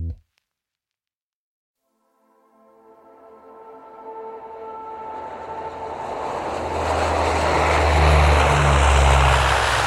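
A propeller airplane's engine drones in flight on a Friday evening in May 1988, flying from Namsos toward Brønnøysund, Norway. It fades in from silence after a brief thump and grows steadily louder as it approaches, with a deep rumbling hum and rising harmonic whine.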